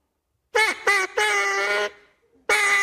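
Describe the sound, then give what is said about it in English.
A hand-blown duck call quacks loudly: two short nasal blasts, a longer drawn-out honk, a brief pause, then another blast. No one speaks. “Let me hear your duck call one more time because that was so thrilling to hear you learn how here.”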